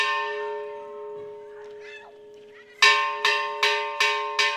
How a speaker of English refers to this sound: Last night, church bells rang out in the family's small town about 40 miles outside Veracruz. 9 days of mourning came to an end with a mass.